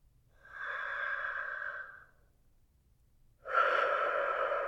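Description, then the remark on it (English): A slow, deep breath: a long, soft inhale, a brief pause, then a louder, airy exhale that carries on steadily. No talking. “And imagine yourself inhaling its warmth. On the exhale, it's nice and slow.”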